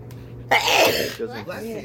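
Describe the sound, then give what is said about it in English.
A single loud sneeze bursts out sharply and fades within a second, after which someone begins talking. “Bless you, girl.”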